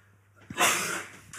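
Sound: loud cough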